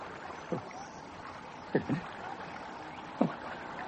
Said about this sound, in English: Oh, I must be hearing this. I'm going balmy. Oh, not. It's a boat. It's a bloody boat.